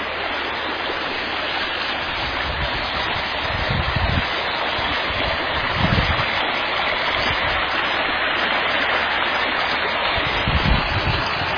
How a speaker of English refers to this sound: More waterfalls, many waterfalls.